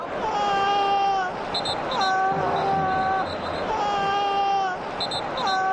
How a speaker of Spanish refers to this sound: Y estos son los gritos de dolor de Dani Carvajal recogidos por la televisión en la retransmisión del partido.